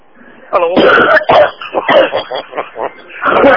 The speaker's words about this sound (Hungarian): Hát azért megmondom őszintén, óra meg kéne menni a körzeti orvoshoz, ez nagyon csúnya köhögés, hogyám.